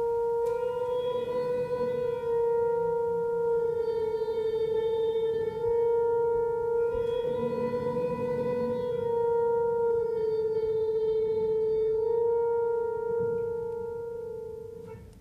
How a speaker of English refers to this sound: But on the magnetic resonator piano, I can do that, so I can show you now. So if I play, let's say, a black key, a B flat, by playing the key to the right and to the left, the white keys, I can create a sort of an oral illusion of a pitch bend.